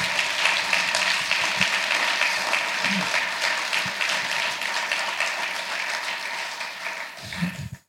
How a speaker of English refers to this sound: So let's give them a big round of applause too.